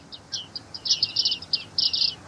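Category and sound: bird, bearded reedlings calling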